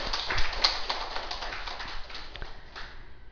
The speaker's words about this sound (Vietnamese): Kính thưa đại chúng, hôm nay chúng tôi muốn gửi đến đại chúng bài pháp Quay Về Nương Tựa. Xin đại chúng vỗ cho tràng pháo tay.